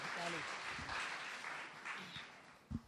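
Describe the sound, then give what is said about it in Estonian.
Steady applause from an audience welcoming a speaker as he comes up, a dense wash of many hands clapping at moderate volume, with some voices audible underneath and a brief louder thump near the end. “Jumal on teda võidnud ja tal on nii hea sõna ja annam talle ühe aplausi, kui ta tuleb.”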